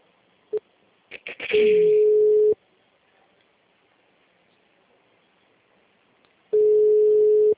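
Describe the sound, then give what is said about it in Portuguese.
A telephone ringback tone plays while a call connects: after a few clicks, a steady mid-pitched beep sounds for about a second, then a long silence, then the beep starts again. No one speaks. “Nesse caso, enquanto tá chamando, você já vai colocando a atividade, nome, CPF, telefone certo.”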